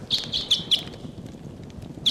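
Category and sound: bird, bird calling loudly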